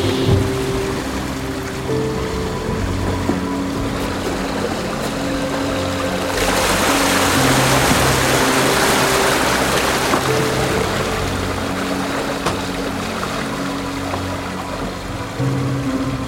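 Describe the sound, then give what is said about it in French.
Steady ambience outside in the sheltered cockpit of a boat rounding Cape Horn into the Atlantic on a round-the-world voyage: a low engine-like drone with tonal hum, water rushing and splashing along the hull, swelling louder midway as spray hisses, no voices. “là nous sommes à l'extérieur du bateau, mais abrités par un espèce de haut vent, ce qu'on appelle le cockpit.”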